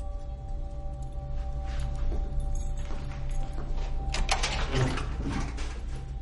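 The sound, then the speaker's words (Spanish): A lock clicks and rattles before a door is pulled open, a few mechanical clacks and a scraping swing heard over a steady low electrical hum. “Abre la puerta cabizbajo.”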